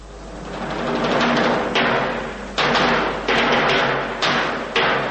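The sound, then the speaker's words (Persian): Big kettledrums (timpani) strike heavy, booming beats representing the hunters in Peter and the Wolf. There are about five loud hits spaced unevenly, each ringing over a dense, sustained orchestral texture that stays full and loud throughout. “و اما صدای تبلای بزرگ علامت شکارچی هاست.”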